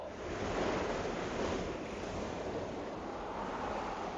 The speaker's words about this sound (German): Jetzt kommt das Wasser wieder näher. Ich muss hochkommen, dieser Wind drückt so.